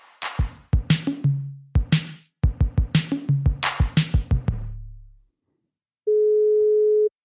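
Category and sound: signal or alarm, telephone ringing tone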